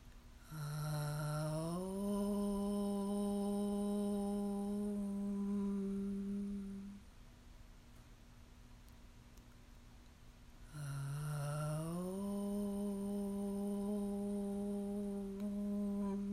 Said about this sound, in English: Let's begin our practice with the sound of Om 3 times, and just let the vibration wash through you.